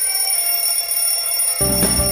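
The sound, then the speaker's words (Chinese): An elevator emergency call bell, pressed by people trapped in the elevator, buzzes continuously, shrill, bright and sustained, then grows louder and fuller near the end with a lower humming layer joining in. No one speaks. “对呀、啊，哎呀，我都忘了按求救铃声了。”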